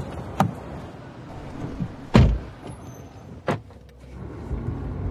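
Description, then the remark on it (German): Car door sounds: a light click, a solid slam, then another thump, followed by a low engine rumble starting up as the car pulls away. “Kaum bin ich los, da fällt mir das Bonsai-Set auf, das seit gestern auf dem Beifahrersitz ausharrt.”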